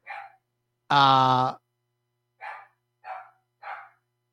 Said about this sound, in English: Hold on, sorry, my dog's barking.